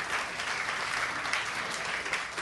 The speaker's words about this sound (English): Wasn't much of a clap. That was even worse.